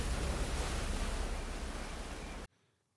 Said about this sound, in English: From the raised position, they could look out onto the crashing waves as they came onto the beach below.